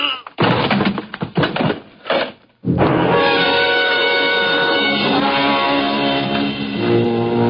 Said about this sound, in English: The gun flew out of his hand. No, you don't. I beat him to it and swung it straight into his skull.